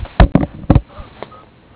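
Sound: telephone number being dialed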